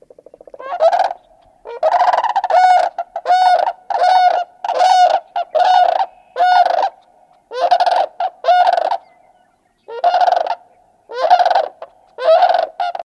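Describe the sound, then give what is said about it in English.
Loud, rolling bugled calls of sandhill cranes in a unison duet, about a dozen rattling bursts in quick rhythmic succession, clear with no talking. “Those sounds were some unison calls of sandhill cranes.”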